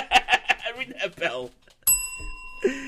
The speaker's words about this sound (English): That bell. So we get rid of that, thank God.